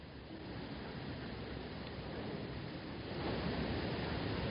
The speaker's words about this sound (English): So now with the rain, very good. Very easy to meditate.